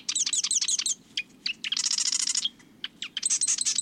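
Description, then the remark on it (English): Marsh wren song: rapid, buzzy chattering bursts, including a long mechanical rattling trill like a sewing machine, set between sharp high notes over a low background hum. No one speaks. “When you're near a marsh this time of year, listen for the marsh wren's sewing machine song.”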